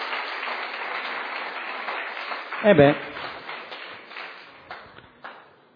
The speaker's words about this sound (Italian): Facciamo un forte applauso alle mogli che... e anche ai mariti.